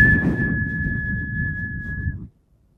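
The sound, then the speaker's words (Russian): A kettle whistles as it boils, a single steady high-pitched tone held for about two seconds over a low rumbling bubble, then everything cuts off abruptly. “Странно, чудо! Закипел, не подавал никаких признаков, понимаете?”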